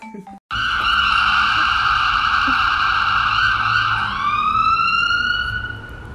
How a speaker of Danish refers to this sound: Det må I undskylde alle sammen. Der var lige en ambulance.